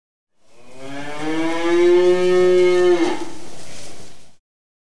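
A cow gives one long, loud moo, a deep drawn-out low that rises slightly in pitch, holds steady for a few seconds, then breaks off and trails away.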